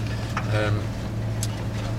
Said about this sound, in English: So the tall plant that we're driving through, you can hear it going underneath the truck, is fat hen. And it was a real problem.